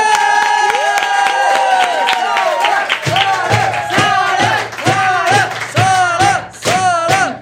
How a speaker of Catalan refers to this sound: Així que ara rebem amb un fort aplaudiment